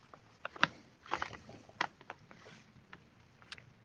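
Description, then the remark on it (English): Paper rustles and crinkles in a series of irregular, crisp bursts, some sharper snaps among softer scrapes, fairly quiet overall with no voices. “Somebody's rustling around with paper or something.”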